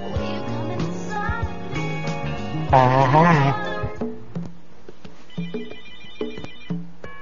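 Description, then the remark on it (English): A telephone rings out on an outgoing call that is not going through, its electronic ringing tones repeating at a moderate level, while a loud, wavering cat-like meow bursts in partway through. “I tried to phone out for you, homeboy. But it is not cooperating.”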